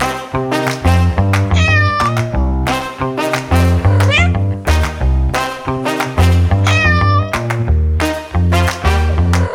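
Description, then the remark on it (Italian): A domestic cat meows repeatedly, several drawn-out, wavering cries riding over a loud, steady musical beat with heavy bass, the meows recurring every few seconds. “Felis Silvestris Catus. Nome noiosissimo in latino e scientifico per identificare appunto questo meraviglioso mammifero che noi chiamiamo gatto, micio, wow, ciao.”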